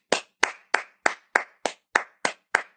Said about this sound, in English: Everybody, I hope you're all clapping because she literally sacrificed herself.